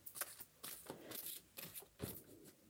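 A deck of cards being shuffled, with repeated bursts of crisp, papery riffling and flicking in quick succession, fairly quiet and with no talking.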